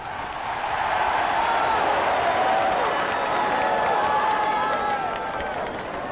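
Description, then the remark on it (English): A large outdoor crowd at a rally, including people out under the trees, yells and cheers in one loud, sustained roar lasting several seconds, with many overlapping voices rising and falling in pitch before it eases slightly at the end. “And I want to hear a yell and a thunder from all those people who are out there under the trees.”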